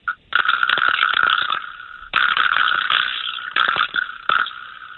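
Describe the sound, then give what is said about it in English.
A vibraslap (a ball on one end connected by a piece of metal; hitting it rattles the part inside) struck about four times, each hit bursting into a loud, buzzy wooden rattle that sustains and slowly fades before the next strike. No one speaks. “It's got a ball on one end. It's connected with a piece of metal, and down there you hit it, and it rattles the thing inside.”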